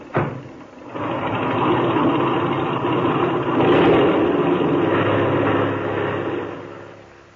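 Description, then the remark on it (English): An airplane engine roars to life after a brief pause as its motor is opened for takeoff with the brakes set, building to a loud, steady drone that swells in the middle and then begins to fade toward the end, with no voices. “Open that motor, and when I wave to you from the outside, take her off.”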